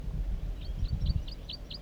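A wild bird calls in a quick run of about six short, high chirps, evenly spaced and fairly soft, over a steady low rumble of background noise.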